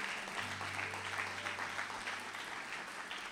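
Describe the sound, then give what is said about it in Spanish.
A crowd, asked to stand, applauds steadily for faith and the Lord for several seconds, a dense, even wash of many hands clapping with no pauses, while a low steady hum sits underneath. “Denle un aplauso a la fe, al Señor.”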